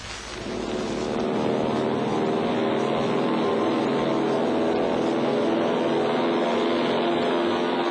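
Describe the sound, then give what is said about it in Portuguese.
The engine of a Transportes Aéreos Portugueses airplane drones loudly and steadily, with a rich humming tone that rises in at the start and then holds evenly throughout. No one speaks. “Nos aviões dos transportes aéreos portugueses, chegará ao Porto numa hora e um quarto.”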